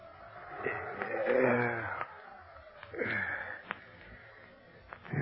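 Wind howls in wavering, rising and falling moans over a steady breathy rush, with a few faint clicks scattered through and no voices.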